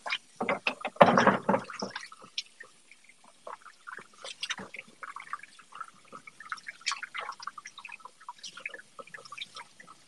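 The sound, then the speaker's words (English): Power washing a fridge: an early loud hiss of spraying water, then a steady patter of splashes, drips and short spurts against a hard surface. No voices. “They're saying fridge power washing ASMR.”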